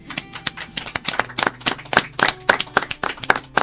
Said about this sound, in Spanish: Muy bien, vamos a darle un aplauso.